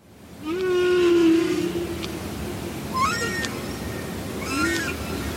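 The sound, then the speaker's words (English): Long, moaning calls of a humpback whale and a sperm whale echo underwater, picked up by a microphone on the sea floor off Northern California: a sustained low tone followed by two rising, wavering cries, with a few faint sharp clicks over a steady murky hiss. “You're listening to the sounds of a humpback whale and a sperm whale.”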